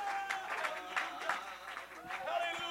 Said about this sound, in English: Why don't we clap our hands unto the Lord?